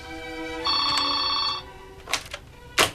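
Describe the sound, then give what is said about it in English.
A telephone rings once in a bright, sustained electronic tone lasting about a second, then stops, followed by a couple of sharp clattering knocks as the handset is picked up and hung straight up again, then left off the hook. “picks up the phone, then hangs it straight up again before leaving it off the hook.”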